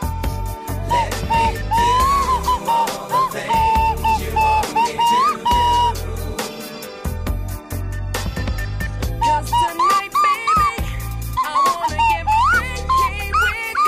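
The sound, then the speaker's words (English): A whistled pop melody glides and bends over a loud backing track with a thumping bass beat, the tune carrying clearly through nearly the whole stretch with brief pauses between phrases. “He doesn't dance when the music actually kicks in with the whistle, but he'll dance when it's just the whistle.”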